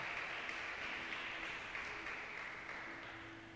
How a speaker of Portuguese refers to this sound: Dê a mais linda salva de palmas para Jesus. Aleluia!